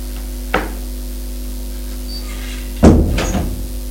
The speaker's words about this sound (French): Elle ouvre la porte de la chambre.